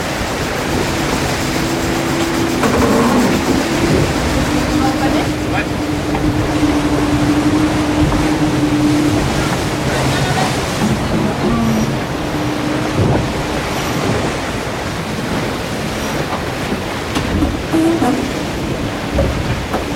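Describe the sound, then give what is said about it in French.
A boat moves through open sea, waves rushing and splashing against the hull with steady wind buffeting the microphone, while a low engine-like hum drones underneath throughout. “Voilà, il y a le bateau, il y a l'océan, etc.”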